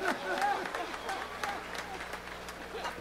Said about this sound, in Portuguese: Uma salva de palmas, então.